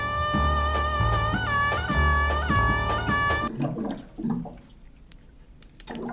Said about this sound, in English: That's just, some water. I'm not hitting a bong.